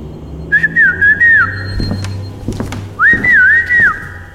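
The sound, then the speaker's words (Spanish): A person whistles a lilting, wavering tune in two short phrases separated by a pause while arriving, over a low background hum with a few soft thumps like footsteps or movement. “Hace cuánto que no llegaba chiflando así.”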